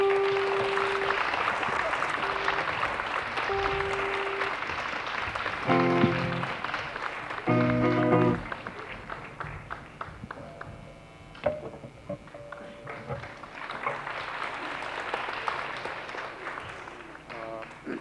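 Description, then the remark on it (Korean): An audience at a Seoul YMCA event applauds to welcome the YMCA's general secretary to the front, a steady, dense wash of clapping with brief tonal blips and a short dip in loudness partway through before the clapping swells again. “앞으로 나오실 때에 큰 박수로 환영해 주시길 부탁드리겠습니다.”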